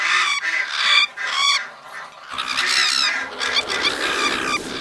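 A dense flock of attacking birds squawks and honks loudly and continuously, harsh overlapping cries filling the whole stretch, with a noisier, more chaotic surge of calls in the second half.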